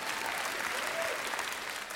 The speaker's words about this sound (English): And before you clap too loud, if they're not showing honor, guess who didn't teach them to show honor?